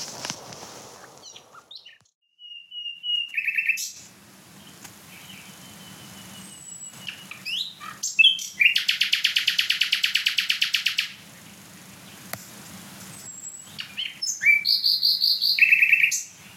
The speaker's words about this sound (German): Also ich hoffe, du kommst auch in den Genuss, in deiner Nähe irgendwo, in den Genuss des Gesangs der Nachtigall.